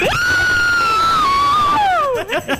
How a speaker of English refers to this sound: Okay, you guys got to all scream together. 1, 2, 3.